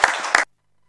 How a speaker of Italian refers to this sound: Quindi grazie anche al consigliere, un applauso per l'accettazione.